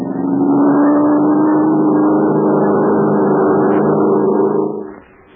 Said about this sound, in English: The plane's playing in a circle. Get ready to dive. Now watch me for a signal and get everything you got. That plane must be brought down.